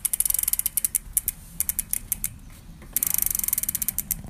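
A bike chain spins as the pedals are turned, producing a rapid, steady series of sharp ratcheting clicks that pause briefly midway, then resume in an even, fast rhythm.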